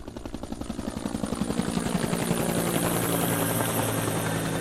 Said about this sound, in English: NASA even sent a helicopter over with infrared equipment, hoping to help locate the burial sites by air.